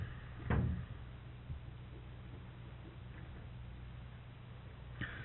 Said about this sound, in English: Bye. Close the door.